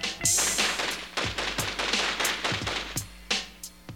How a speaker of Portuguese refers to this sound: As armas dos PMs apontam para os dois rapazes. Os PMs formam uma linha paralela com as portas da viatura e começam a disparar e a avançar como um pelotão de fuzilamento.